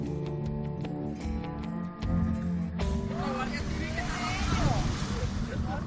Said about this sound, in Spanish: Allí, mientras varias familias disfrutaban de un día caluroso, una lancha entró a gran velocidad rumbo a la orilla. Por el aire le seguía un helicóptero de la Guardia Civil.